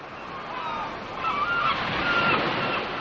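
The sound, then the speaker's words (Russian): Ducks quack and call over a steady wash of sea waves, the surf rumbling continuously beneath them, with no one speaking. “превратилась в белую утку с золотым хохолком и улетела в море”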